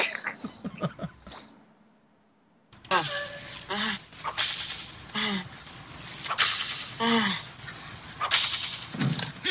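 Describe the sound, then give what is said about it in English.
Sharp, loud slaps or whip cracks strike repeatedly, mixed with pained vocal cries, after a brief quiet gap near the start; from a film scene in which one of the slaves is being slapped. “And you hear them slapping one of the slaves.”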